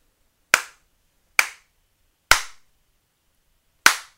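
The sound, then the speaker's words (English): Four sharp hand slaps ring out one by one with short, uneven pauses between them, counted out as a rating out of five for a song, each a crisp smack that decays quickly into silence, with no voices. “I got some slaps to dole out. Out of five slaps, I give this song”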